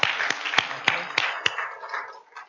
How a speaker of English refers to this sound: Let's clap.